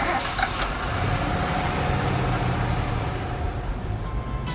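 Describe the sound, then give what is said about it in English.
A car engine runs with a steady low rumble and broad hiss, holding an even loudness throughout with no voices. “I'm getting in the car.”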